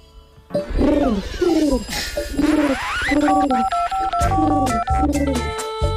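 A quick run of about six electronic telephone dialing tones, made while phoning people, each a short swooping beep, followed by steadier keypad-like tones. Loud, with no talking.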